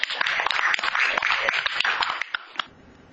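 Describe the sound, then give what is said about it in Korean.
An audience breaks into applause for a director who had just read aloud, a dense, steady patter of many hands clapping for nearly three seconds, then a few last claps before it quickly dies away. “우리 한번 박수로.”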